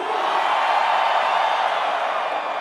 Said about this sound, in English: Let's grab a fan photo if that's cool. On the count of three, scream as fucking loud as you can. One, two, three.